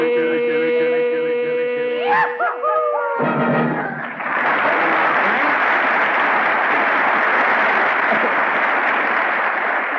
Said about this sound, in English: Well, Frank, you heard that applause.